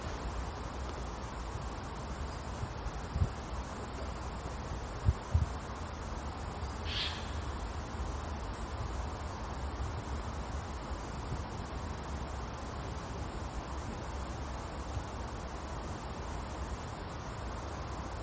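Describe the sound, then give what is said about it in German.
A steady, unbroken wash of sea surf roars evenly throughout, with a motorway also audible, a few faint knocks early on and a single brief high chirp partway through; no one speaks. “Das Meeresrauschen.”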